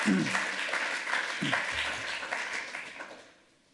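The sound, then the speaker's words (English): A crowd bursts into applause for a speaker after his slide talk, dense overlapping clapping that holds steady for a few seconds before tapering off, with a faint voice briefly audible underneath. “All right, give him a round of applause.”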